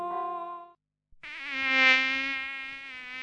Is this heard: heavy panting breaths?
no